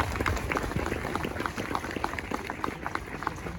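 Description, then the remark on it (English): Steady applause from an audience welcoming the Ukrainian Athletic Federation, a dense wash of many hands clapping at once, fairly loud and sustained throughout with no voices standing out. “So let's extend a warm welcome and round of applause for the Ukrainian Athletic Federation.”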